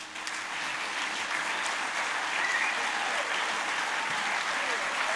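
Sustained applause from a large audience thanking a musician and band on stage, a dense steady wash of clapping that stays loud and even throughout, with a few faint cheers mixed in.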